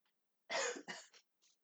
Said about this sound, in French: Qu'est-ce qui ne va pas? Je tousse beaucoup. Depuis quand avez-vous ce problème de santé? Depuis quelques jours.